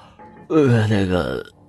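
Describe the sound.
A man lets out a single drawn-out yawn, about a second long, voiced and sliding downward in pitch, close and fairly loud with nothing else around it.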